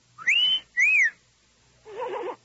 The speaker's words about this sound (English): Gee, that pretty whack keeps looking at me. I think I'll whistle again.